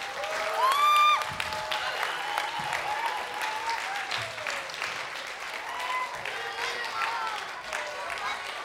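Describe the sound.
A church audience at Grace Church claps steadily in dense, sustained applause for children leaving after their dedication, with scattered voices and a few whoops and cheers rising above the clapping throughout.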